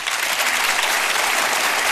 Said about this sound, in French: Je vais vous demander d'applaudir à la guitare ce soir, Monsieur Rocky Gresset.